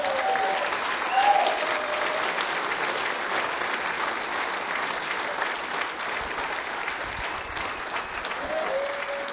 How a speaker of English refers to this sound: All right, this is the fun part. Now it gives me my great pleasure to announce, give a nice round of applause